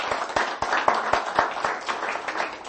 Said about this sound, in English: Wonderful response. Praise God. Let's give each other a round of applause, shall we, for being so brilliant.